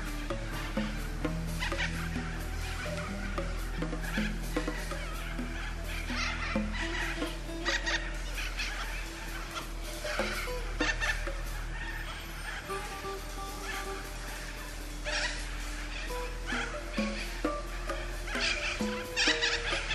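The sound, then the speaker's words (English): A dense outdoor chorus of birds calling and clucking nonstop, overlapping calls over a steady low background rumble, with no talking. “But for now, listen to these birds.”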